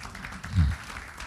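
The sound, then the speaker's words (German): A brief burst of applause from an audience in Hamburg, a dense spread of clapping that swells midway and fades quickly, lasting only about a second. “Ja, Sie können auch klatschen.”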